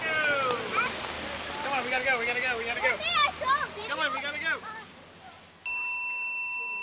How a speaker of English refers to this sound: The doorbell rings at the front gate.